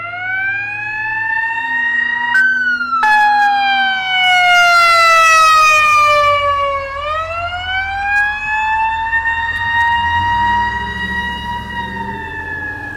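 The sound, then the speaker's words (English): A loud emergency vehicle siren wails, its pitch sweeping slowly up and down and dipping sharply midway as it passes, with low traffic rumble underneath. “But someday a siren like that could come for you.”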